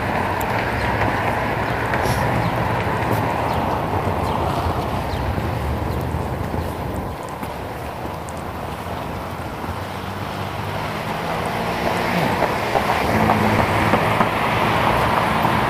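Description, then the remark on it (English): The engine of a camel-painted Japanese truck roars steadily and loudly, a deep continuous rumble with wind-like noise that swells again toward the end, with no one speaking. “Impress me with your macho roar. Camel painted Japanese truck.”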